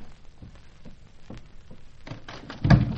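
A few faint clicks and light rattles, like a handle being tried, build to a louder wooden thump near the end as a door is pushed open, without talk.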